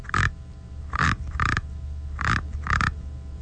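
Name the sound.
frog croaking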